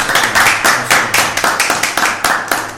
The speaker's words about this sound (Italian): Sono qua con noi, ovvero Fabio Caressa e Beppe Gherbergo, un applauso, duo di scappare.